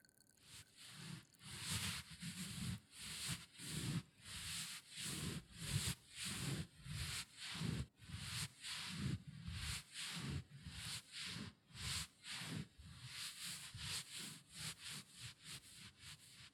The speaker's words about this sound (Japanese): 炭酸洗浄液の泡が少なくなってきましたね。お疲れ様でした。じゃあ、残った炭酸洗浄液を拭き取りますよ。